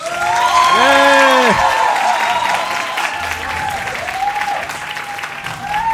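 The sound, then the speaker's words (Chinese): A crowd claps loudly and steadily for several seconds, with a few rising and falling whoops and whistles cutting through the applause, as an audience welcomes the show's first in-person guest arriving onstage. “朋友帮欢呼一下，哎。”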